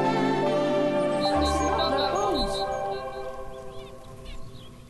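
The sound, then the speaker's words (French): A quick run of high, repeated nuthatch calls rings out in a garden over a steady, humming outdoor background, the notes evenly spaced and fairly clear before the scene settles into softer noise. “Puis ça, c'est les oiseaux de mon jardin. Donc, j'ai enregistré les petits oiseaux.”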